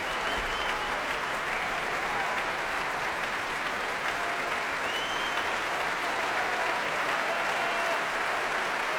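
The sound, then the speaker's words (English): An audience stamps and slow hand claps in a steady, dense wash of applause, urging pianist Lars Vogt back onto the platform. The applause holds at an even loudness throughout, with no voices rising above it. “Stamping, slow hand clapping to urge him back once again onto the platform, and here he comes.”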